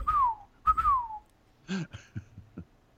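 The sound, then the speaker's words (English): Someone whistles two sliding, falling notes, followed by a few short hummed or sung syllables in a quick, bouncy rhythm. “Whistle while you make tacos. La da da da da. Chic sailor whistle.”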